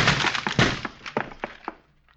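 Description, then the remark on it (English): A heavy, cracking thud as a locked door is forced open with a shoulder, followed by a scatter of smaller knocks and clatters that taper off into quiet. No one speaks. “Door's locked. Give it your shoulder.”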